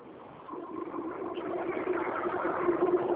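A car passes by on the speaker's end of a phone call, its engine and road noise swelling from a quiet start into a steady, broad rumble that fills the rest of the short, muffled recording.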